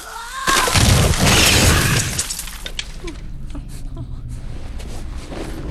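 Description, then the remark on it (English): A skeleton is smashed with a fist in a loud shattering crash that lasts over a second, followed by scattered clattering fragments and faint debris settling as the noise fades. “He slashes one in the shoulder with the silver blade, then smashes the skeleton with his fist.”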